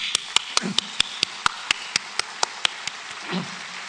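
Applause in the form of sharp, evenly spaced claps, roughly fourteen in a steady rhythm over a few seconds, with a faint murmur of voices underneath.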